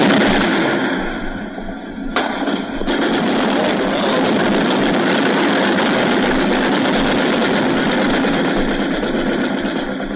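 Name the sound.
gunfire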